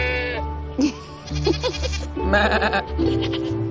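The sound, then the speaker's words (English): Several goats grazing in an inn's yard bleat in overlapping, wavering cries, fairly loud, with a steady low hum running underneath throughout. “Goats graze in the inn's yard.”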